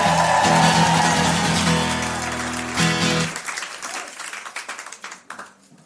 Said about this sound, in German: Boah, der Applaus war auch schnell vorbei.